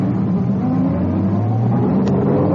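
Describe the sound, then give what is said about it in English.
A car engine revs up steadily, its loud, deep drone rising gradually in pitch as the vehicle accelerates, with no voices over it. “This car must be tailing them.”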